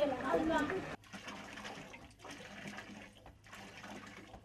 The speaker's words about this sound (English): Nearby, girls pump water from a borehole where UNICEF is providing potable water for the refugees.